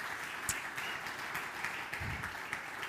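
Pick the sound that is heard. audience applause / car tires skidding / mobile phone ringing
audience applause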